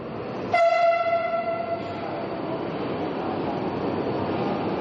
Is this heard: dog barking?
no